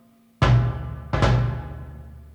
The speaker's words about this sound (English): Bass drum.